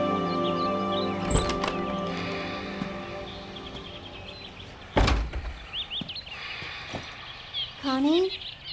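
Small pet birds chirp and whistle in quick, bright bursts, including a run of rising and falling trills near the end, with a couple of heavy door-like thuds and a steady background hum.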